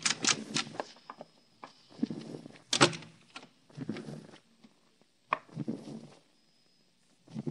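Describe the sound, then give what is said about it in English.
An unlocked door opens with a sharp clack and faint creak, followed by shuffling, thumping movements as someone walks in, then another knock-like bump before things quiet down. “Open up. The door's unlocked. Walk in.”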